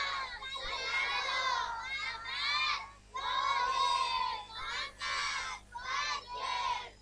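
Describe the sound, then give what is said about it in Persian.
A group of children chant a salawat prayer loudly together in unison, their voices rising and falling in rhythmic bursts with brief pauses between phrases, filling the space with crowd-like energy. “ناز قدومش، صلوات مشتی بفرستید بچه ها.”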